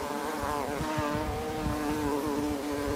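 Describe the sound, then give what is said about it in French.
Steady buzzing of bees and bumblebees around a plant, a continuous droning hum with slight wavering pitch, no voices, filling the whole three seconds. “Les enfants vont regarder ces bourdons, vont regarder ces abeilles travailler.”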